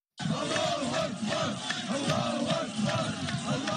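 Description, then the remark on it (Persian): A large crowd shouts and cheers in joyful cries, a dense, continuous roar of many voices with rising and falling chant-like swells, loud throughout, heard in Greece minutes after Hamas's deadly attack on Israel. “نعره‌های خوشی دقایق پس از حمله مرگبار حماس بر اسرائیل از کشورهای شرق میانه نه بلکه از یونان شنیده شد.”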